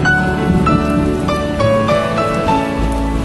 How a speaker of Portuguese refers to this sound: A chuva pode deixar o dia sem vida e os trovões provocar medo.